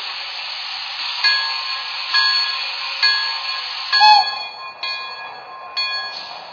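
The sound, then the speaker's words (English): A stopped passenger train, train number 3, idles at a station stop with a steady, bright hiss of air and ringing metallic tones, broken by soft periodic clunks and a short squeal near the end. No one speaks. “Train number 3.”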